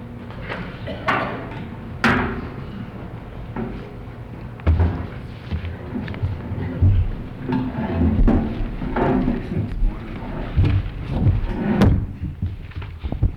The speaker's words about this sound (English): Let's just pull another chair up there.